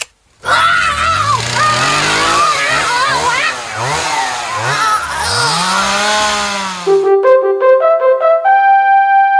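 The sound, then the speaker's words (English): A loud gas-powered chainsaw engine with an 18-inch blade revs up and down in repeated swooping bursts for several seconds, then cuts off into a short run of bright, stepped electronic tones. “It is a well-documented fact that the princes were slain with a gas-powered chainsaw with an 18-inch revolving auger blade and 6-cylinder bicarbonated engine.”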